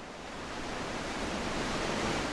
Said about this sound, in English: Harsh winds and waves lash Minami Sanriku's sparsely settled coastline. Far from Tokyo's neon-lit cityscapes and Kyoto's serene gardens, this is a part of Japan you seldom hear about.